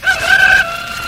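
rooster crowing

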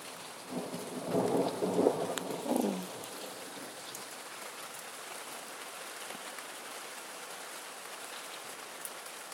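heavy rain with thunder

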